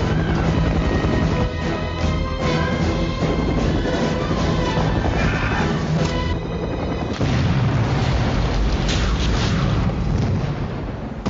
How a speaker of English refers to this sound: And they did it in a much more dramatic fashion involving the blowing up that FBI helicopter.